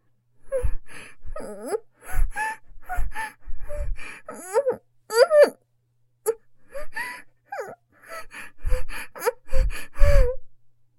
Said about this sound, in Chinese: 勉强发出了几声微弱的呻吟后，也只是努力喘气，终究是未能说出话来。